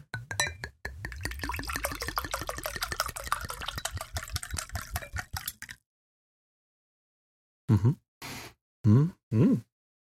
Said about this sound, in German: Ich glaube, ich gieße mir auch gleich mal einen Schluck ein.